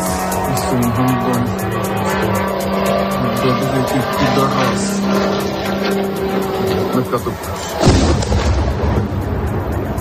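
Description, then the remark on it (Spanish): A steady, droning engine buzz like a small motorbike from an Iranian-made Shahed kamikaze drone passes overhead for several seconds, loud and continuous, then ends abruptly in a heavy blast-like burst near the end. “Los ucranianos los llaman motos por ese sonido que emite al atravesar el cielo. Es un dron de fabricación iraní llamado Shahed y sería la nueva arma con la que Rusia estaría golpeando a la población ucraniana.”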